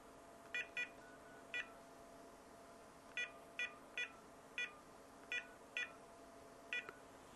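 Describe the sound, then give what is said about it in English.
A series of short electronic keypad tones as a phone number is dialed to call an LG VX4650 cell phone and check that its ringer works, about ten beeps in quick irregular clusters, clear, with a faint steady hum underneath and no talking. “I'm going to call my cell phone so we can verify that our ringer is working.”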